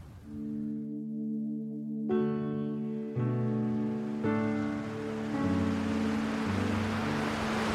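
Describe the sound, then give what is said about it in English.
Sea waves break evenly at the harbour in Fraserburgh on an overcast day, each coming in and starting to break in the centre; their hiss swells toward the end, while loud sustained low tones shift in steps over the surf. No one speaks. “But the waves are breaking very evenly. So it comes in, starts to break in the centre, and it just goes”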